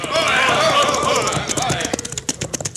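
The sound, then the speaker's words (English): A band of bandits on horseback gallops in, a dense rush of noise giving way to sharp, rapid hoof clops, with what sounds like neighing and shouting mixed in. “But here come the rest of the Bandidos.”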